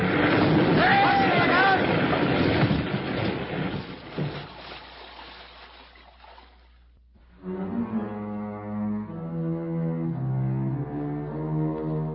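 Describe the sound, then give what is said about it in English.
Loud roar of a motorboat's two engines gunned wide open as the boat swings in, churning through choppy water for several seconds, gradually fading away before sustained musical tones take over. “As we came up on him, Alex suddenly swung his boat straight in at us and gunned his two motors wide open.”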